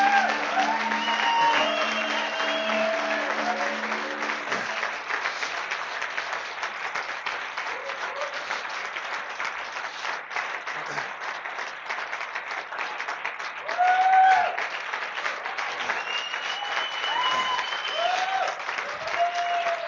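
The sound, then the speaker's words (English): A church audience gives a clap offering to honor guests, clapping steadily for about twenty seconds, a dense, even wash of hand claps at a constant moderately loud level, with a few voices rising briefly above it. “And I would just like the congregation we can just give them a clap offering, just to honor them.”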